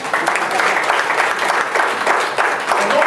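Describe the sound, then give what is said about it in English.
An audience claps steadily, a dense, loud patter of many hands that stays even for about three seconds, with no voices over it. “Oh, that serves a hand of applause.”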